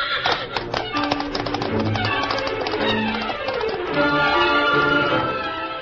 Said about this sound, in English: Meantime, having returned to camp, the Lone Ranger and Tonto were preparing supper when Dan's horse, Victor, galloped in and stopped.